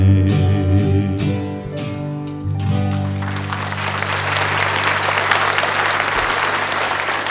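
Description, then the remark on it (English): A sustained musical chord rings out, then a crowd breaks into loud, dense clapping along with the song while a low note lingers underneath; no one speaks. “Clapping along with this one.”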